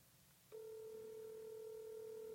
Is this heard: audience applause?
no